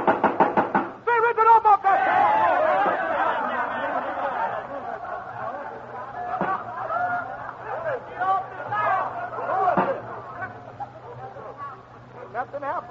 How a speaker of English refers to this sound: Okay, knock on the door.